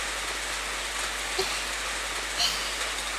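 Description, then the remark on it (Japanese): Steady rainfall hisses evenly throughout, a dense wash of falling drops with a couple of slightly louder drips standing out. No voices are heard. “ちょっと雨の中お体が濡れてしまっては大変です。”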